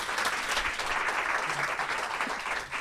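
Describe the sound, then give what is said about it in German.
A crowd applauds the two candidates for mayor, steadily, a dense, even wash of many hands clapping at once that holds at a constant loudness without pause throughout, with no voices heard. “Und ich bitte jetzt einmal um einen kräftigen Applaus für die beiden Kandidaten.”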